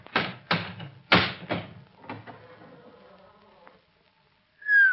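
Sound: hammer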